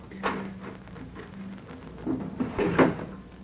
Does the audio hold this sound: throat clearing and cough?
no